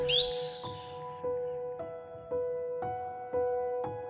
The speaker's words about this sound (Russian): Ты слышишь утренних птиц.